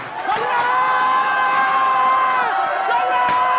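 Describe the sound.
A crowd of voices shouts surprise and cheers together in a loud, sustained burst as a man enters a dark classroom for a surprise party, many people yelling at once with overlapping high-pitched whoops.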